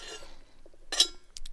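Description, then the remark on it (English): Someone sips water from a glass: a soft rustle and small swallowing sounds, then a bright glassy clink in the middle and a short breathy noise at the end. No one speaks. “Sorry, I'm drinking water today.”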